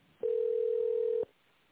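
telephone ringing tone

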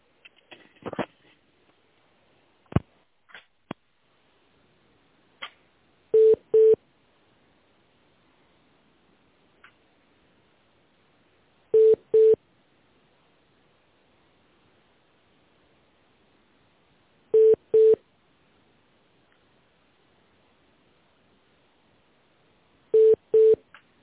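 telephone tones

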